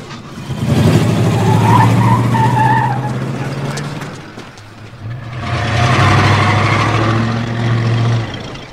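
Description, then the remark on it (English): A car brakes hard with tires skidding and squealing in two long, loud bursts, each several seconds, separated by a brief lull, with the engine rumbling underneath. “Watch it. No, I'll watch him. He's breaking.”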